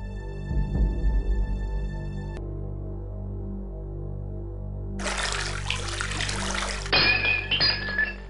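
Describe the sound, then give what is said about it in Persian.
Water is poured out onto the ground in front of a wounded man and splashes steadily for a few seconds, following a brief ringing clink and low background rumble; no voices. “ابن عمرو آب رو در مقابل اون مرد زخمی به روی زمین ریخت و اونو با لبهای تشنه به عبیدالله ابن زیاد سپرد.”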